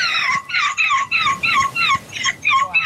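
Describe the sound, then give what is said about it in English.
A 9-year-old boy imitates a seagull at the European Gull Screeching Championship, letting out a rapid run of shrill, wavering screeches in quick repeated bursts, loud and high-pitched, with no other talking. “That is not an actual seagull.”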